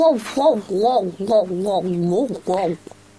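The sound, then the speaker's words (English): A turkey brought out for a demonstration gives a rapid run of warbling calls, about half a dozen bubbling notes in quick succession, fading out at the end. “Get the turkey, Lemental.”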